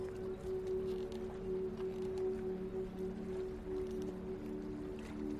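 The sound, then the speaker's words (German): Steady harbor ambience with large and small boats on the water: a low, constant engine-like hum over a continuous wash of water and faint background activity, with no voices. The level stays even throughout. “Und du schlenderst entlang der Boote.”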